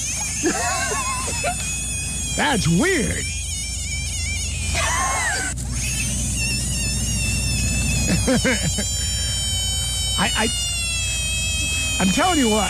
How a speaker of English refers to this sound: Did you know that frogs know how to scream when you pick them up?